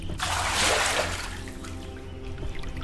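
A burst of splashing as cupped hands dip into a stream and splash water onto a face and over a head to cool off, loudest in the first second, then a steady stream trickling and babbling over a low background hum. No one speaks.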